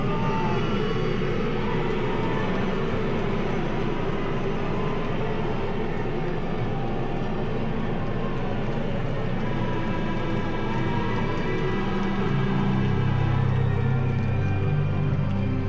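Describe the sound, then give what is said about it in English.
A large crowd of St. Louis Blues hockey fans boos the Blues off the ice after a 4-0 loss, in a steady, droning roar that fills all fifteen seconds, with no clear breaks. The low, heavy rumble swells and grows louder near the end. “That is an unhappy fan base right there, booing the Blues off the ice.”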